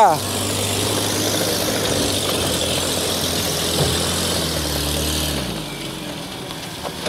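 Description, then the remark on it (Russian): A car engine runs with a steady low rumble, then its tone shifts and fades after about five seconds as the car pulls away after an explosion test. Voices are faintly audible in the background. “Сможет ли после такого испытания наш автомобиль тронуться с места?”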